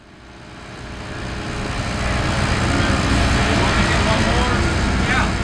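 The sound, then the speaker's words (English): Loud, steady machinery roar of new construction in Tulsa, where jackhammers and cement saws are laying down new roads and putting up new apartment buildings; it swells up over the first couple of seconds and holds, a broad grinding wash with faint rattling texture. “The jackhammers and cement saws that are laying down new roads and putting up new apartment buildings are a welcome noise in an American city that's been shrinking.”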